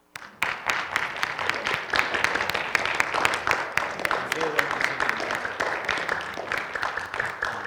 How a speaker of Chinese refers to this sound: 所有这样的姐妹们妈妈们请站起来，我们现在给每位妈妈一支鲜花，还有一个小礼物，一个润唇膏，请妈妈们站起来，我们一起鼓掌好吗？